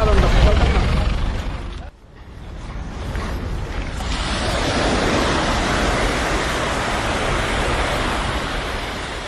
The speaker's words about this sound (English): The waves are hitting the shore on the west side of the city. Those are some of the sounds of Dakar.